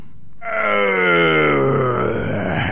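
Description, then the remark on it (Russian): A loud, drawn-out roar of the dragon Zmey Gorynych, voiced by a person, bursts in after a brief silence and holds for about two seconds, its growling pitch sliding slowly downward. No talking. “Увидал змей Горыныч Добрынюшку, бросил мертвое тело на земь, зарычал громким голосом.”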